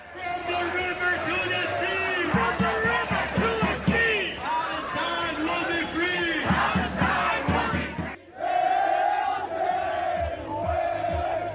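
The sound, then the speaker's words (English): A dense crowd at clashing pro-Israeli and pro-Palestinian rallies shouts and chants continuously, many voices overlapping in loud, rhythmic bursts, with a brief dip before the roar of yelling surges back. “Tensions flared with Israeli protesters accusing opposing rally participants of supporting terrorists.”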